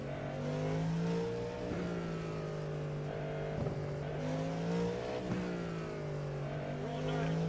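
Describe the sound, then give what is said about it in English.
A race car engine drones loudly and continuously, its pitch sliding up and dipping several times as it revs and shifts while driving, the driver easing on and dragging the still-cold brakes. “My brakes are still cold. Yeah, I keep easing on them.”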